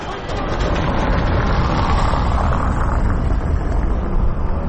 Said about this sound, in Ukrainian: Зараз на вулиці Інститутській їздять машини, декілька їх тут припарковано.